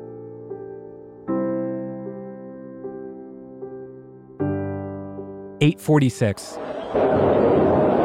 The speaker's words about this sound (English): That was an explosion. Flight 11 crashes into the North Tower of the World Trade Center. An FBI informant taking part in a sting operation at the Marriott World Trade Center between the Twin Towers serendipitously captures this audio.